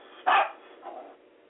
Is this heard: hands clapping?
no